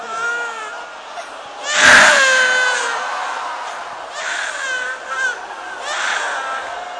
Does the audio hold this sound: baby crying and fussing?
yes